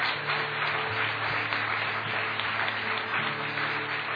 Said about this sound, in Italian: Facciamo un forte applauso al Signore. Forte questo applauso. Alleluia.